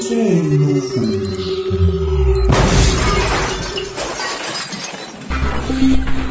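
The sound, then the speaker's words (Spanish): Falling electronic tones give way to a loud explosion destroying a command center, followed by several seconds of crashing, shattering debris and rumbling noise, with no voices. “Una gran explosión destruyó el centro de comandos, donde se encontraban el conde negro junto a Garrapata y Piojoso.”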